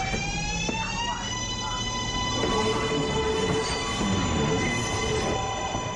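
A New York City subway train runs steadily with a continuous loud rumble and high metallic squealing tones from the wheels and rails, sustained throughout, with no one speaking.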